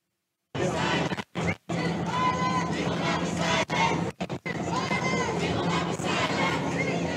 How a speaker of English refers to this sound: Okay, so they're shouting at the cops. And then, this is my favorite, the protesters started chanting, speech is violence.